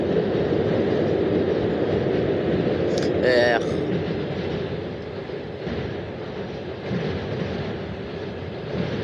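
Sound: passing train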